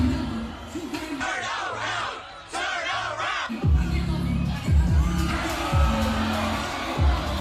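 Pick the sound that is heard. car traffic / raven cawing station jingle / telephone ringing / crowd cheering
crowd cheering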